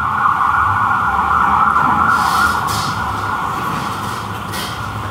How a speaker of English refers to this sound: if you can go back just and wait until the sirens pass, please.